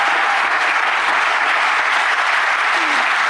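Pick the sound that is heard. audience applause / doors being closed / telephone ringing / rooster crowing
audience applause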